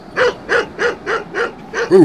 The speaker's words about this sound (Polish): Zaszczekał stary pies łańcuchowy. Był cokolwiek zachrypnięty, odkąd przestał być psem pokojowym i już nie wylegiwał się pod piecem.